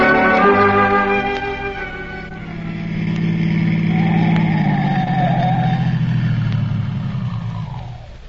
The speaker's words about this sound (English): Stopping the car here, Dr. Christian. There isn't a house in sight.